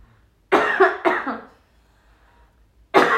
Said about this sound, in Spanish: A ver, denme un segundo, voy a toser.